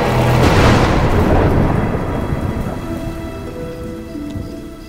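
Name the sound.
heavy rain with thunder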